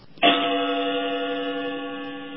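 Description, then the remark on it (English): A single gong is struck as a show segment cue, ringing out loudly on its own, with a sharp hit followed by a long, steady metallic hum that barely fades over a couple of seconds. “Cue the gong.”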